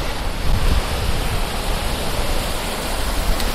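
Steady, rushing sea waves fill the scene with a dense, continuous wash of noise, fairly loud, with a slight swell near the start and no voices; the sea onto which migrants set out in a wooden barge in search of Europe.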